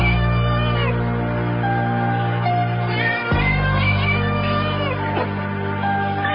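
Cat meows stretched and pitched into the melody of a song, rising and sliding over a steady musical backing, loud, with a sudden break partway through before the tune resumes.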